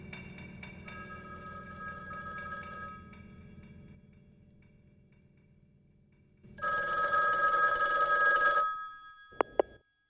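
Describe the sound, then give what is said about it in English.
An old-fashioned telephone bell rings, first a softer stretch over a low hum, then a loud jangling burst of about two seconds, followed by two sharp clicks like a handset lifting. “I can't answer the phone right now.”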